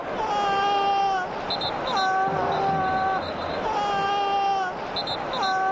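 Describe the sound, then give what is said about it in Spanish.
Footballer Dani Carvajal screams in pain in long, strained, high-pitched wails, about three drawn-out cries with short breaths between, loud over a constant murmur of crowd noise, as picked up by the television broadcast of the match. “Y estos son los gritos de dolor de Dani Carvajal recogidos por la televisión en la retransmisión del partido.”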